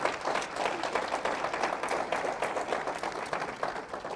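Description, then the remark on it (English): A church audience applauds steadily for about four seconds on a Father's Day morning to honor a man, a dense, even patter of many hands clapping at once with no voices rising above it. “Give him a nice hand clap, church.”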